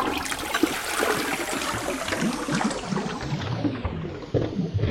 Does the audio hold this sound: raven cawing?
no